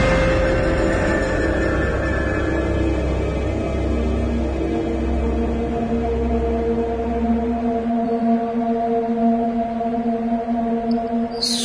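A long, drawn-out wailing scream like a woman's voice, steady and tonal with slight pitch wavers, over a low rumbling drone that fades out partway through.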